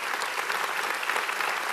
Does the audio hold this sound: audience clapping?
yes